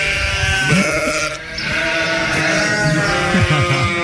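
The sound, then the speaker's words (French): A flock of goats or sheep bleats, several overlapping wavering calls rising over a busy, constant barnyard din, with no one talking. “Écoutez, vous êtes aussi dans une ferme, dans une chèvrerie, vous avez des brebis, eh bien, envoyez-nous des messages vocaux, parce qu'on a envie d'être numéro un chez les animaux aussi.”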